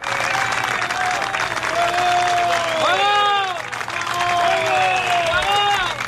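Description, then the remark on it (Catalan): Applause from a crowd of farmers blocking the P7 road, applauding a pine tree they have planted in the middle of the P7 with the help of machines, a steady dense clatter of many hands clapping that stays loud throughout, with voices mixed in and sliding tonal sounds rising and falling over it. “Aplaudeixen, no aplaudeixen a ninguna persona, aplaudeixen un pi, han plantat literalment un pi al mig de la P7.”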